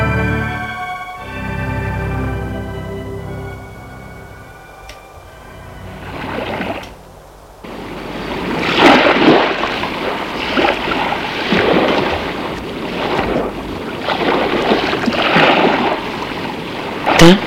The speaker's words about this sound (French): Il se laisse bercer par le bruit de la mer.